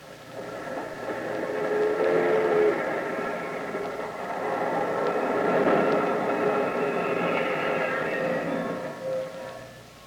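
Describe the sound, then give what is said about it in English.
A radio sound effect of a train, played as a quiz clue whose answer is Whistle Stop: the train rumbles steadily for about ten seconds, with sustained whistle tones sounding over the churning noise, swelling and easing slightly without a break. “Now, the answer is Whistle Stop with George Rapp.”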